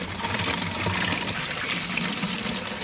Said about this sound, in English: So do they need to cover the hole? It would probably help. Right the way up. Fill it right the way up. OK, so maybe cover the hole with your finger and fill it right the way up with water otherwise.